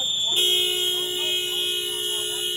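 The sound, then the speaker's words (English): A car horn blares in one long, steady honk starting just after the opening and holding to the end, loud, with faint wavering voices and whistle-like tones in the busy street noise beneath, as community members follow immigration officers in their cars, honking and whistling in protest. “And that's because the fierce resistance to this ICE surge continues to be noisy as community members are following immigration officers in their car, honking and whistling.”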